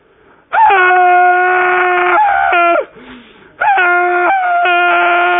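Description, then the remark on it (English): A voice imitates a woman in an audience screaming loudly, two long, piercing, wavering shrieks separated by a brief breath, at full volume with no talking. “Just screaming at the top of her lungs.”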